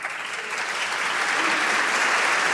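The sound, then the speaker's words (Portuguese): Sustained audience applause for a tribute to the Captains of April of 25 April 1974 who have died over the last 50 years, a dense wash of many hands clapping at steady volume for the whole stretch, with no voices standing out. “Aplausos também para a referência aos capitães de Abril, que já morreram ao longo destes últimos 50 anos.”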